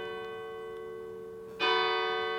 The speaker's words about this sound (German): Der Glockenturm, ist das schön. Das war dreimal, oder? Zweimal hast du reingequatscht. Ist es 15 Uhr? Nein, das ist jetzt 16 Uhr. Dann hat es viermal geläutet.